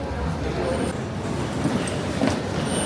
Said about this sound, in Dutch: We gaan met de metro. De metro in Milaan halen. Vet.